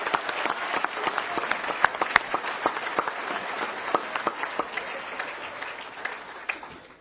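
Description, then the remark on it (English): A crowd applauds Congressman Edwards and his family steadily for about seven seconds, many hands clapping in a dense, crackling patter with a few sharper individual claps standing out, slowly tapering off toward the end. “So let's give Congressman Edwards, his family, a round of applause.”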